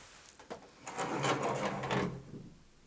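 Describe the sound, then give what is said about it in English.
A door being shut: a light knock, then about a second of rattling, scraping movement as it swings closed, fading out into quiet room tone. No one speaks. “I'm going to shut that door because the fridge is humming.”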